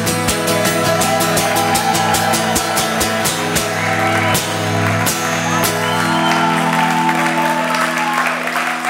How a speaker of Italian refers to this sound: Grazie! Grazie, grazie, grazie! Un altro applauso per le nostre poetesse!